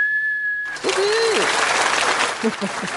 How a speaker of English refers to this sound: And the crowd goes wild.